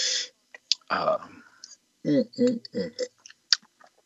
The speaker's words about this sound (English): It's lean, it's bright, it's fresh, it's acidic. Very refreshing. I'm going to have another little sip here.